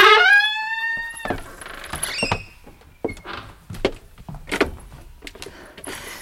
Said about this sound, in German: Hörst du die Schiffsglocke? Das ist die Van Buren. Der Dampfer ruft zur Fahrt nach Norden.